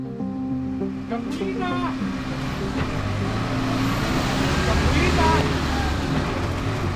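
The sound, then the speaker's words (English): Busy street traffic in Mexico City with a pesero minibus engine rumbling, steady and loud throughout, with other vehicles and indistinct background voices mixed into the continuous din. “Let's start by telling you about a problem involving that massive informal system of buses. They're called peseros.”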